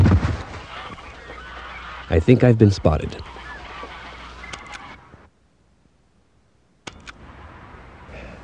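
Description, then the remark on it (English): Loud honking from Canada geese at 6 a.m., a quick burst of repeated calls over a steady outdoor rumble, with a man speaking briefly; then a short silence before faint ambience resumes. “Please add the following sound to my master tape labeled Sounds. Canadian geese, Diane.”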